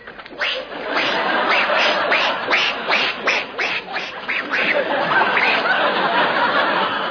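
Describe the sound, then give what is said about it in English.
A person imitates a duck with a loud run of rapid nasal quacks, followed by a steadier, drawn-out quacking sound toward the end. “Duck? You know, duck!”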